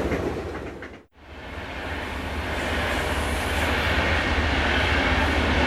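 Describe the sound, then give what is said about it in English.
A train to Seattle rumbles steadily along the tracks, a loud, continuous roar with a brief dropout near the start, then a sustained, slightly building drone. No voices. “Last call for the train to Seattle.”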